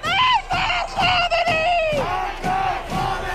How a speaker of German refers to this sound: Die Proteste fanden in allen großen Städten des Landes statt und entwickelten sich zu Massenprotesten. Die Menschen skandieren «Tod dem Diktator», «Tod Khamenei».